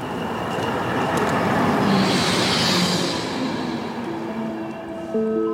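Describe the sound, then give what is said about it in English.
A train rumbles steadily past at a train station in Poland, a train bound for Berlin, a broad continuous roar with a hissing swell in the middle, followed by faint tonal squeals and hums as it settles. “And head to the train station in Poland. And get on the train back to Berlin.”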